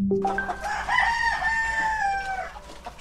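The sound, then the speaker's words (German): A rooster crows once, a loud, drawn-out cock-a-doodle-doo with a rising then falling harmonic call lasting about two seconds, clear over a low background hum. “Wie laut darf ein Hahn krähen?”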